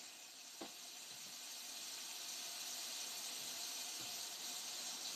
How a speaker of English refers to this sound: Let me empty the rest of the broth down and give the sink a little rinse. And I give my doughnut a rinse. I need the water to get hot.